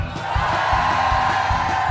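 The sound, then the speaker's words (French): A crowd of interns shouting and cheering together in a loud, sustained roar, with overlapping yells and whoops filling the space without any single voice standing out. “Je veux vous entendre gueuler, les stagiaires.”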